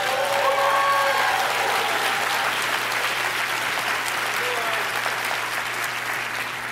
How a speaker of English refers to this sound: Man, I want a better hand clap than that.